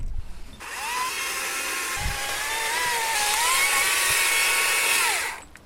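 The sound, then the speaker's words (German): A chainsaw whines steadily for about five seconds, cutting through a fallen tree trunk lying across the way, its pitch sagging and recovering under load. It's loud, with no voices, and stops abruptly. “Es liegt ein Baum vor uns, quer. Ja, mal gucken, ob ich noch genug Saft in der Kettensäge.”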